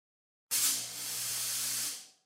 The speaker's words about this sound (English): Hit the fog machines.